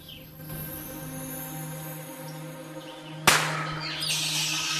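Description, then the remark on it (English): A single sharp firecracker bang, lit with a lighter and thrown into a spider monkey enclosure to scare a monkey off the ground, cracks out about two-thirds of the way in, followed by a lingering hiss, over a steady low hum and faint outdoor chirping. “She uses a lighter to ignite a firecracker, which she throws into the spider monkey enclosure.”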